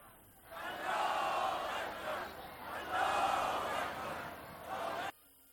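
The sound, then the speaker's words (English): A large protest crowd in Iran chants in unison at a rally condemning U.S. policies on the National Day Against Global Arrogance, loud massed voices swelling and fading in a steady rhythm every couple of seconds before cutting off abruptly. “Crowds of people took to the streets in different cities in a show of their anger at the U.S.”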